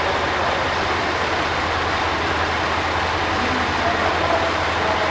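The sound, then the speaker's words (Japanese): A train rolls into platform 2 of a station, a loud, steady rumble and hiss of wheels and machinery that fills the whole stretch without a break. “2番乗り場に列車が入ります。ご注意ください。”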